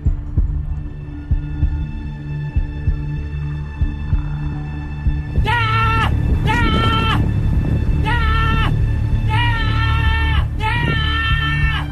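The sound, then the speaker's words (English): A baby goat bleats in a run of four or so drawn-out, quavering cries, loud, after several seconds of low humming background noise. “You're both right. That is, in fact, a baby goat.”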